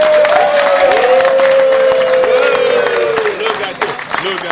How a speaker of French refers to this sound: qui veille à la bonne tenue de cette émission depuis plus de 10 ans et que l'on peut applaudir.